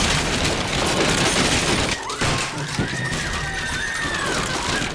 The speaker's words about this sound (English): The whole house of carts is crashing down.